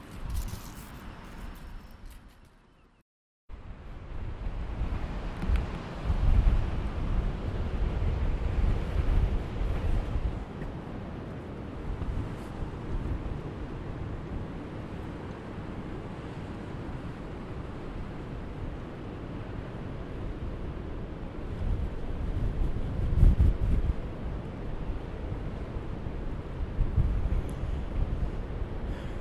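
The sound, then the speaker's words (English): Strong wind buffets the microphone in steady, rumbling gusts over the wash of choppy sea at Seahouses Harbour, Northumberland, facing the Farne Islands, on an extremely windy, cold day with no boats going out; a continuous blustery roar after a brief quiet moment at the start, with no voices. “Well, that's the sound of Sea Houses Harbour.”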